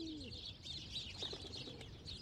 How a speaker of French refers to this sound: Et voilà, on laisse passer donc les oiseaux.